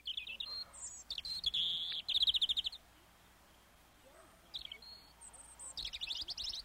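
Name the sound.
european robin song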